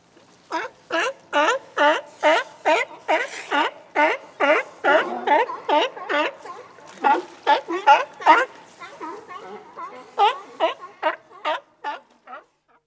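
A seal barks over and over in a fast, steady series of short, harsh, honking calls, loud and rhythmic, with brief gaps between them and no talking.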